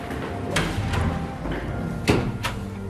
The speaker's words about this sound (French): Voilà, on arrive avec cette porte automatique.